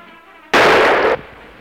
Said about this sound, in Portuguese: O senhor acertou em cheio, Bibelô. Um tiro bem no coração.